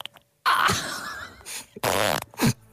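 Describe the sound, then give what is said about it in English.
A queef: a long, loud, flappy burst of expelled air, followed by two shorter sputtering bursts, with no talking. “This is like a front bottom burp.”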